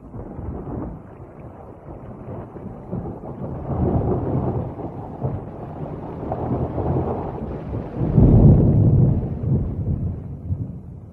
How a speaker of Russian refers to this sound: О! Гроза, батюшка, идет. Домой бы надо бечь.